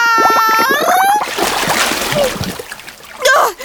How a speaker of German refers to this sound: Hat dieses Zischen eigentlich irgendwas zu bedeuten? Und irgendwie habe ich das Gefühl, dass das Wasser immer höher steigt. Ach du Schande. Hab ich's mir doch gleich gedacht. Das Ding ist undicht. Hier geht die Luft raus und wir gehen unter.